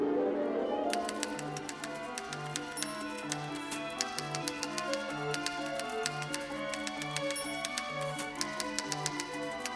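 Rapid, irregular typewriter clacks rattle over an orchestral passage from Erik Satie's 1917 ballet Parade, in a 1954 recording conducted by Igor Markevich, with a steady, pulsing low figure beneath. The keystrokes are crisp and prominent, starting after a brief opening and continuing throughout.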